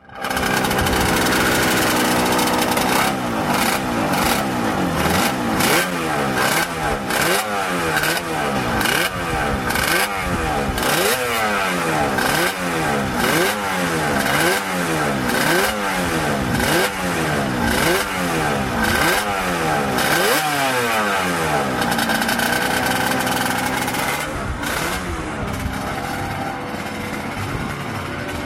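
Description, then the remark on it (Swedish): A two-cylinder, water-cooled Yamaha RD350 motorcycle engine from the 1980s revs repeatedly, its pitch sweeping up and down in rapid rhythmic bursts, loud, continuing steadily for nearly half a minute with no one talking over it. “Ja, och det vi hör nu i bakgrunden, det är en tvåcylindrig Yamaha, en RD350 vattenkyld från 80-talet någon gång.”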